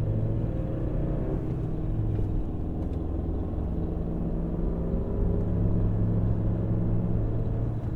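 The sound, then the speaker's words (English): A Ford F-150 pickup truck engine rumbles close by, a deep, steady, guttural drone that holds loud and continuous for the whole stretch, with no voices over it. “That is a Ford F-150 truck that's making all that noise beside us here.”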